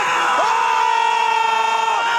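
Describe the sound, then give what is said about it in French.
A loud, dense roar of a football crowd cheering Benjamin Pavard's goal in the France–Argentina match, with one sustained, rising shout held steadily above the din for about two seconds. “Le son du jour, c'est cette explosion de joie hier lors du match France-Argentine.”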